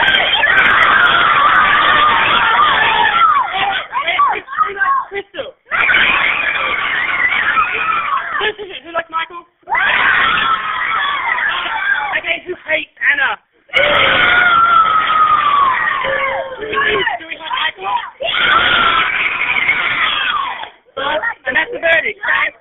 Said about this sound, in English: Hello, this is just an explanation about that previous message with the shouting. That was my class of lovely 25, 10-year-olds who are very enthusiastic about Big Brother, and I thought I'd share it with your audience.